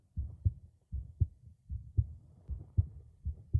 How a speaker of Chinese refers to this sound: 来吧，把头埋进我的胸部吧，然后耳朵贴过来。 我的心脏的声音能听得见吗？